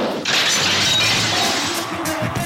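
A short jingle dominated by a loud, harsh crashing and shattering burst that erupts after a brief pause and roars on for about two seconds, with faint tonal notes threaded through the noise.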